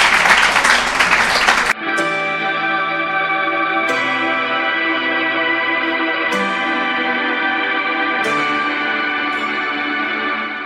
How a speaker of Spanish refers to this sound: Muchas gracias. Un aplauso. Gracias.